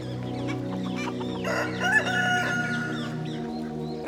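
In the countryside by a stable, a rooster crows loudly over a steady chorus of clucking hens, their busy, overlapping calls continuing throughout with no talking.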